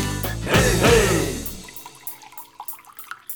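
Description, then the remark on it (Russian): A short gush of liquid splashes loudly from the tap of a large wine barrel in a wine cellar, then tapers off into a few scattered, quiet drips falling at an irregular pace, with no voices. “Вот и сейчас друзья сидят в винном погребе, и Пальдешок, периодически проверяя, не каплит ли из крана большой бочки, излагает Артуру интересные сведения относительно Мадеры и Хереса.”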